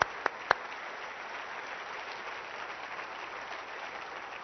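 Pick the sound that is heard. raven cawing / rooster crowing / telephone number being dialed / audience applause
audience applause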